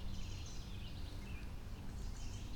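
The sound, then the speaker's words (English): Birds chatter and alarm-call in agitated bursts, suspected to be reacting to an owl in a big tree on a golf course by a creek, thin high chirps overlapping over a low, steady rumble of outdoor background noise. “I'm kind of suspecting that our owl is in that tree, just going by all the other sounds of birds freaking out.”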